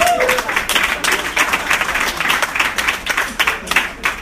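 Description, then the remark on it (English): A comedy show audience breaks into steady applause, dense overlapping claps at moderate loudness with a few whoops and voices mixed in, sustained for the whole stretch. “Can we get a round of applause for you?”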